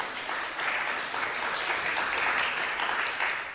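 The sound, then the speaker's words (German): An audience claps hesitantly for a few seconds when asked who has farmers among their friends, a steady, fairly even patter of many hands at moderate volume, with no one speaking over it. “Da war ein bisschen unsicheres Klatschen, aber hat jetzt auch gerade jeder geklatscht?”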